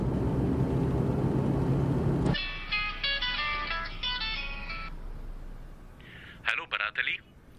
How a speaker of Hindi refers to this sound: मैं तरबियती मरकज आया था, देखा उनका मोबाइल मेज पर रखा बज रहा है।